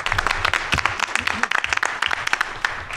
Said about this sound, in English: let's give him a round of applause for getting Brian here